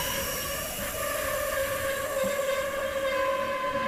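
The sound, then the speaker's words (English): A steady, loud rumble of a train running along the tracks, with sustained tonal whines and a constant low roar throughout, with no voices. “This train is awesome! And we're making great time.”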